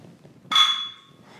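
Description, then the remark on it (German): Two glass bottles of Pilsner Urquell beer clink together once in a toast, a sharp, loud strike followed by a bright, ringing tone that fades over about a second. “Lass mal direkt anstoßen hier.”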